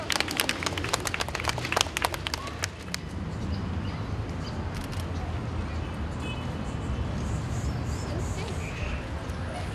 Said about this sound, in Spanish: Escuchemos un aplauso para ellos. ¡Bravo!